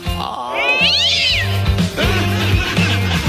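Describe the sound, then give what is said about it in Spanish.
A black cat in a home kitchen lets out a loud, drawn-out meow that rises and wavers into a yowl, followed by softer cries, with a steady low pulsing hum running underneath throughout. “Estaba un día en mi casa, dice, y adentro de la cocina me encuentro con un gato negro.”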